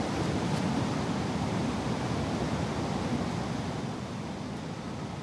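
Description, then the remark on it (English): A steady, dense, loud roar of rushing water from a waterfall in a river pours on without a break. No voices are heard over it. “seeing a waterfall in the river. The water's just there.”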